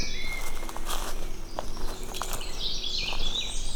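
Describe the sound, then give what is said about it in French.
Birds sing softly at dusk as evening begins to fall, with thin, high chirps drifting in over a steady outdoor hum and occasional soft footsteps or rustles. “Et puis, c'est la bonne heure, là, les oiseaux.”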